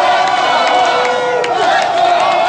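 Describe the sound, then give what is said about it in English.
A dense street crowd of hockey fans chants "Let's go Hawks" and cheers outside the United Center in Chicago at night, celebrating the Chicago Blackhawks' Stanley Cup championship; a steady roar of many voices with rising shouts and whoops layered on top, loud and continuous throughout. “Let's go Hawks, those people were chanting.”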